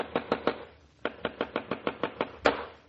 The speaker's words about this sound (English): How long do you expect me to sit in this room listening to people pounding nails? That's four moldings fixed. Only two to go.